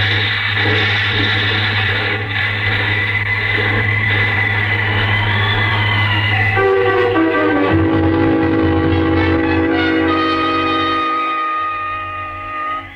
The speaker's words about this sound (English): You maneuver the car close to the edge, and then open the door on your side, and jump clear as the car with its grisly load plunges over the side.